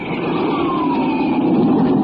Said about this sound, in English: That's a Republic Thunderjet up on a test flight. Jets like that are pioneers of the sky, leading the way to the air age of tomorrow.